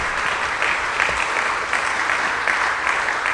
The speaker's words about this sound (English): Let's give Nancy a round of applause.